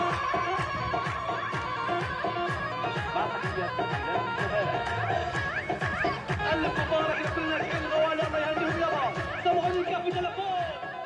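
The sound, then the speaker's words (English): Music and celebration in a displacement shelter in Gaza, as people celebrate passing their Tawjihi graduation exams: a steady, driving drumbeat repeats throughout, nearly buried under loud, dense crowd chatter and excited voices for the whole stretch. “And the second is from Gaza, where people are playing music and celebrating in a displacement shelter.”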